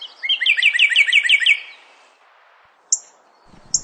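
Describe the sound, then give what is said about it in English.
A northern cardinal, which just flew across the path, gives two sharp, isolated chip notes about a second apart, following a quick, bright run of repeated bird notes at the start; clear with no talking. “Single note call of a cardinal, northern cardinal, just flew across the path there.”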